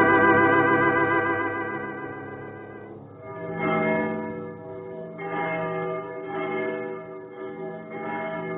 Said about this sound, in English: Sire, do you hear it? What? Oh, those church bells? Yes. I come here at night to listen to them. The men say there's something mysterious in their sound. Those bells are over 500 years old.